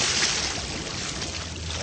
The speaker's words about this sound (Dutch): En dan gaan we om te beginnen gaan we schrikken aan de waterkant. De groot waterkantgeluiden.